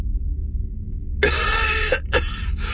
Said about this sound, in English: coughed again, this time much more violently.